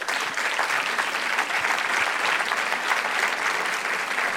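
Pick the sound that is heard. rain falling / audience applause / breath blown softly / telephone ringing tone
audience applause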